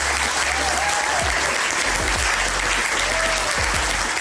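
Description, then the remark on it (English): A studio audience claps steadily to welcome a guest, in a dense, continuous round of applause that stays loud throughout, with a few faint cheers rising briefly above the clapping. “And first of all, before I bring her, the audience members would have to give her a round of applause.”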